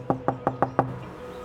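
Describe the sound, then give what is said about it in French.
Five firm knocks on a wooden door opening onto the street, at 45 rue du docteur Simone Sedan, a small alley in Marseille, evenly spaced in quick succession, resonant with a hollow thud, then quiet room tone. “C'est une porte en bois qui donne sur la rue.”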